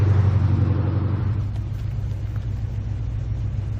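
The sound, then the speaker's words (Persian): A car engine rumbles steadily, its low drone shifting in pitch as the vehicle drives and accelerates, with no voices. “میخوای نقشه رو بهت بدم من رانندگی کنم؟”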